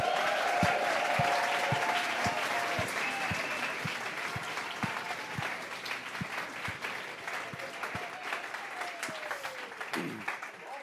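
Loud, sustained applause from a large crowd fills the whole stretch, with a steady rhythm of heavy thumps like stamping feet pounding beneath the clapping.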